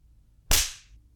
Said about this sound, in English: That ass of yours is adapting a sweet red hue. I hope my large hands make a lasting imprint on your flesh, as well as your unbearable behavior. I'll just keep spanking you until you stop squirming.